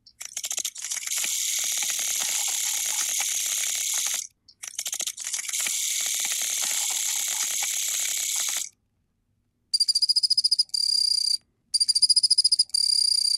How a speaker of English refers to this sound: We are now going to move from song sparrows, Gabe, to Pacific field crickets.